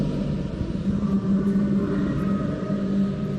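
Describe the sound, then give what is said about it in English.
Muffled, echoing music drifts up from somewhere deep within a sewer, heard through the holes of an old sewer cover: low, sustained droning tones, almost chant-like, held over a steady rumble for a few seconds, with no voices speaking. “Through the holes in the cover, we can hear what sounds like echoing music coming up from somewhere deep within the sewer.”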